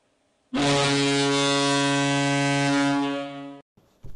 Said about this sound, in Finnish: Siinä soi taas summeri, laitetaan jaksopurkkiin.